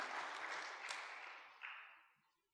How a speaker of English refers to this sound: Yeah, just go ahead and give the Lord a round of applause, because that's who you are.